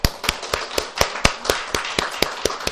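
Applause from a church audience for a newly appointed deacon and a deacon finishing her term, heard as a steady run of sharp, crisp claps about four per second over a soft wash of background clapping, with no voices.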